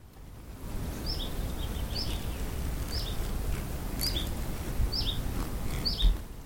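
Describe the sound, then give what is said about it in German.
Birds call in the San Bernardino moorland, giving short high chirps roughly once a second over a steady low rush of wind, fairly faint, with no one speaking. “Vögel und Insekten wie etwa Libellen finden hier genauso ihre ökologische Nische wie seltene Pflanzen.”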